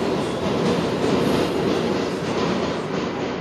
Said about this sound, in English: And I ended up in this train that was going faster than anything you can imagine.